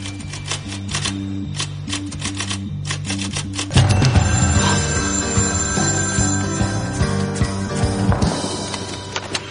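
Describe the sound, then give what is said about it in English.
A run of sharp key taps as a number is dialed on a telephone, each key pushed forcefully, is followed by the telephone ringing, loud, with a steady musical hum beneath and no voices. “Harold dialed the third phone, fervently making sure to give each number key a specific, forceful push.”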